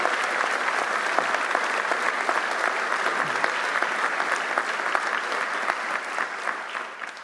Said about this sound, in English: How about a nice round of applause for our students and their support?